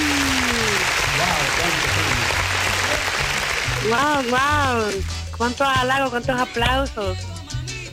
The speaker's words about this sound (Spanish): Wow, cuántos halagos, cuántos aplausos.